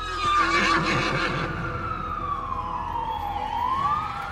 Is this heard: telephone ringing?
no